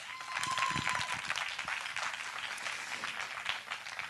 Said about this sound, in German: Ja, ich frage einfach mal so in die Runde, wer von euch ist eine Busenfreundin? Einmal klatschen.